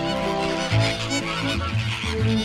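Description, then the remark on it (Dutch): A colony of pink flamingos in the French countryside bickering with each other: loud, nasal, goose-like honks overlap in a continuous noisy chorus, with individual calls rising and falling in pitch throughout. No one speaks. “Want ze staan om de minuut met elkaar te bekvechten. Letterlijk bekvechten. En daar maken ze dan dit geluid bij.”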